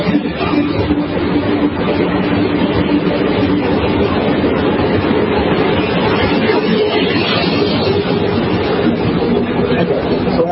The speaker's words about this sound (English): Let the train go by so I can hear you.